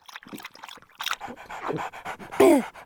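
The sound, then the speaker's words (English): A dog, Monty, pants after running in quick, breathy, rhythmic puffs, loud and steady, then lets out a short, higher-pitched whine at the end. “You must be thirsty after all that running, Monty.”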